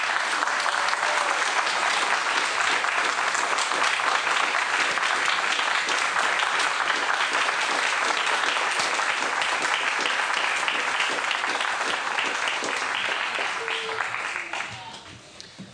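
An audience applauds the angels steadily, a dense, even wash of many hands clapping at a loud, constant level for about fourteen seconds before it thins out and fades to a few last claps.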